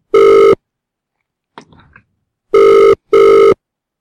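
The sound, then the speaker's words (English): A phone call rings unanswered: loud, steady, buzzy ring tones, one burst followed after a pause by a quick pair, with a faint brief rustle in the gap. “I don't think she's going to answer this time, guys.”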